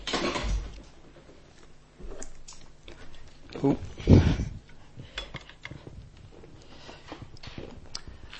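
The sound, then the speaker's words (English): A water glass gets knocked over at a pulpit: a short burst of clattering knocks midway, louder than the scattered taps and rustles around it, with faint murmuring voices underneath. “Knocking water over is not unprecedented in this pulpit.”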